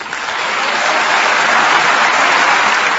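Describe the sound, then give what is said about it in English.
Thunderous applause from foreign dignitaries and journalists at UNESCO's Paris headquarters greeting Palestinian President Mahmoud Abbas, a dense, steady roar of clapping that swells in the first moment and holds loud and unbroken throughout, with no voices over it. “Mr. Abbas was greeted by thunderous applause by foreign dignitaries and journalists gathered at the Paris headquarters of the United Nations Educational, Scientific, and Cultural Organization to celebrate the agency's latest member.”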